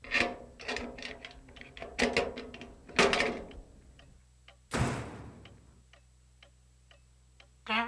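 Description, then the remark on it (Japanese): A door opens at night, past 3 a.m.: a series of sharp latch clicks and knocks, a creaking groan, then a heavier thud, with a final click at the end. No one speaks. “扉が開く音で目が覚めました。”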